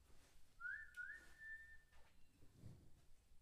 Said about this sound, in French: J'entends siffler derrière les laurels que mon père a juré de tailler bientôt. C'est ma mère qui me rappelle à la maison. Cette mélodie, brève, distincte, c'est celle que ma grand-mère sifflait pour l'appeler, elle aussi.